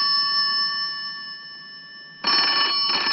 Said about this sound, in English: He watches it, almost reaching for it again. When it stops ringing, he picks up the receiver and makes a call.